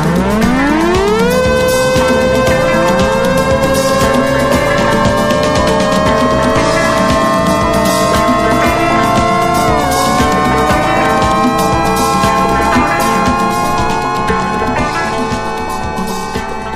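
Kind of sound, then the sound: household object, alarm clock ringing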